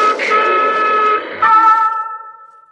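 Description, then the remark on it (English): An elevated train roars past a window toward a bend with a loud, metallic screeching whine that holds steady, shifts pitch midway, then fades away over a few seconds. No one speaks. “An elevated train roars past the window toward a bend.”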